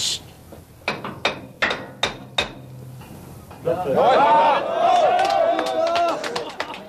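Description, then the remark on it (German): A series of about seven sharp, evenly spaced knocking taps from trapped miners, heard through a deep borehole away from the main shaft three days after the mine disaster, rings out, followed by a rising swell of excited voices talking over one another. “Doch 3 Tage nach dem Unglück hörte man bei einer Tiefbohrung abseits des Hauptschachts plötzlich Klopfzeichen.”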